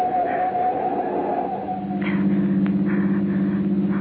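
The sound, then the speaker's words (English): A car engine runs steadily with a low, droning hum; partway through, the engine note shifts into a stronger, buzzing tone, as if revving or changing gear. No one speaks. “The car's been tailing us for the last 5 minutes.”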